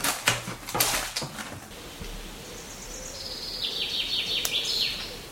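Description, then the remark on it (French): A dog whines in a series of high, thin, wavering cries that rise and fall, preceded by a few sharp knocks and scuffles, with no voices. “Elle est en train de te demander du pain. Mais non. Si. Elle discute. Non, je te dis qu'elle se plaint.”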